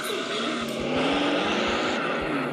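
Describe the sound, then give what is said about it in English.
Race cars rolling out to the grid, a steady, dense engine drone with rising and falling harmonic whines layered together, holding at a fairly loud level throughout. “Got cars rolling out to the grid, right?”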